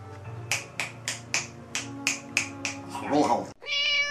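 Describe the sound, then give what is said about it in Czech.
A quick, steady run of about ten crisp finger snaps, evenly spaced, followed by a short, high-pitched harmonic cry at the end. “Jo, je tam na té creepypasta Wiki, u té creepypasty je přímo obrázek, který vám teď ukážu po tomhle lusknutí.”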